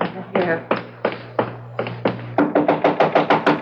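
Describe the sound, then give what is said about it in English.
Loud knocking on an office door at a museum: a handful of heavy, spaced-out raps, then a quicker, insistent run of about eight sharp knocks, with no talking over them. “Open up, Gallinari. Open the door.”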